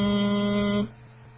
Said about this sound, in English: I'm going to connect with the next meme and do humming for two counts.